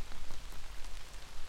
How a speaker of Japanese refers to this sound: 雨音に溶けてしまうように、